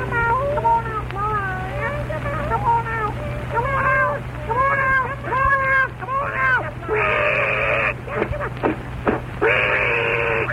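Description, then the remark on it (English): A rapid string of rising and falling meow-like cries, loud, over a steady low hum, followed by a couple of longer, drawn-out wails; it sounds like a voice imitating a cat. “So what does the pussycat mean when she says, meow?”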